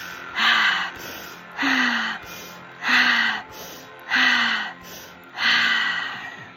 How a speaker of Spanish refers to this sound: Tu diseño original sigue respirando nariz, boca.